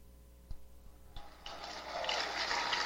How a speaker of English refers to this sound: Cheers. Cheers from the floor.